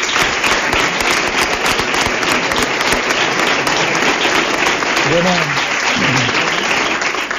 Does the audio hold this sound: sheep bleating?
no